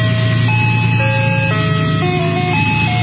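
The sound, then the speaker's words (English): A tinny jingle from the Special Neat Treats ice cream truck in the Loveland community plays a simple stepwise melody of sustained electronic tones, steady and fairly loud, over a low engine hum, with no one talking. “explained why the ice cream truck is a big hit.”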